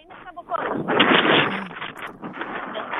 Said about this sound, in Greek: Δηλαδή, ακούμε όμως, καταλαβαίνουμε και το πόσο πολύ φυσάει, δηλαδή η ένταση των ανέμων πρέπει να είναι πάνω από 5-6 ψηφοφόρου.